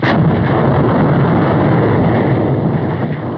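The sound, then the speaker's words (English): A massive, sustained explosion of the planet Krypton roars without a break, a dense wall of deep rumbling and crackling noise that stays loud from start to finish, with no voices. “One of the planet's leading scientists, sensing the approach of doom, placed his infant son in a small rocket ship and sent it hurtling in the direction of the Earth just as Krypton exploded.”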